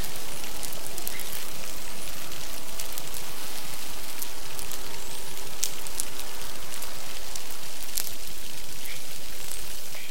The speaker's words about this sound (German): So klingt es, wenn die Delfine ungestört miteinander kommunizieren können.